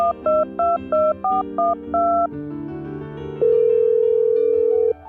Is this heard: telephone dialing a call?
yes